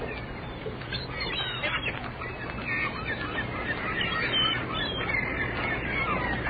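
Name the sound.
seagulls calling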